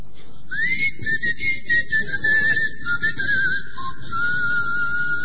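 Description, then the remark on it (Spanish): Someone whistles a long, steady melody with gently wavering pitch and a brief dip near the end, clear over a hissy, rumbling background; no one speaks. “Usted canta o silba”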